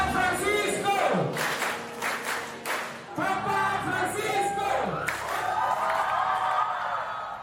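Hundreds of young people cheer and shout continuously for Pope Francis in East Timor, with high voices rising and falling in a loud, dense roar and occasional chanting swells throughout.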